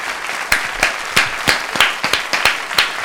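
A talk show audience applauds the programme's panel guests, steady dense overlapping claps with a few sharper, louder hand strikes standing out in an irregular rhythm throughout.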